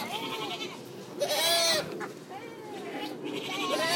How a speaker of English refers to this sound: So what's making the noise? Why? What animal is it? Goat. And how many goats are there? Four.